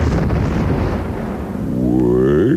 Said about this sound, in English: Look at these cherry bombs, bottle rockets. Whoa, we in the M-80s.